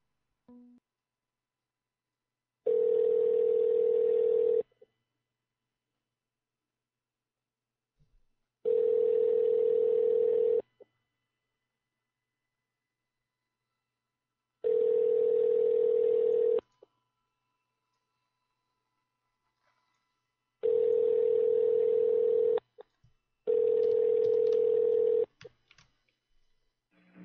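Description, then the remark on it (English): A phone line rings out: five long, steady electronic ring tones, each about two seconds, separated by silent pauses, clear with no one speaking. “Calling. Well, fuck you. Try their cell phone.”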